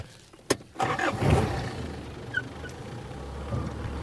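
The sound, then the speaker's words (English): A car engine rumbles low and steady as the vehicle reverses away from a just-set vulture trap, after a sharp knock near the start, with a couple of faint bird chirps above the motor. “Moments after he's reversed away, the vultures close in.”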